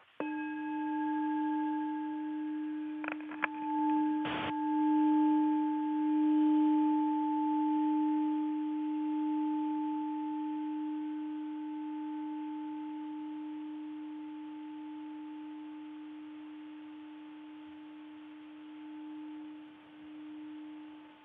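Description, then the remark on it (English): A bell is struck once and rings with a steady, low, humming tone and bright overtones, slowly fading over about twenty seconds with no voices. “So I'll invite a closure with the sound of a bell.”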